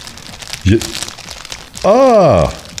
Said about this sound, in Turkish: Foleyler böyle yapılıyor. Evet. Şömine sesi. Çok güzel. Naylon torbayı hışırdattım valla.